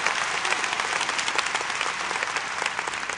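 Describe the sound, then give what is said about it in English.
An audience claps steadily for Dr. Savell for several seconds, a dense, even wash of many hands slapping together at a consistent, fairly loud level with no voices on top. “Give Dr. Savell a great hand clap.”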